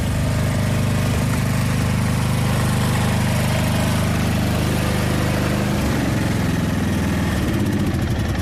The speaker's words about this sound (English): I'm walking along the footpath, which runs alongside the railway line here at County School. And in front of me, there's a gentleman driving a mini tractor.